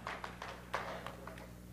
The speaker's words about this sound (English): You know, those are all the life groups who are clapping, the life group leaders' phrase.